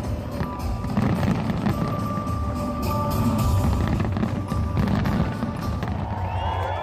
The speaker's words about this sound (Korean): 밤이 되면 엄청난 규모의 불꽃놀이가 펼쳐져서 밤하늘을 수놓습니다.